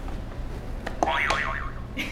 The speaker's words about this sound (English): Could you click another buzzer for me?